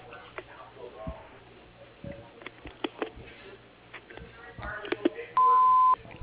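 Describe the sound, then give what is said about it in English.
Scattered clicks and faint crackle on a thin phone line give way to the Westchester Construction Company's answering machine tone: one steady, loud, mid-high beep lasting about half a second. “At the tone, please leave a short message with your phone number, and I will be in touch with you as soon as possible.”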